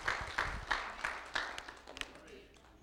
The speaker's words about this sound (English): Would you give the Lord another hand clap of praise? Amen. Glory.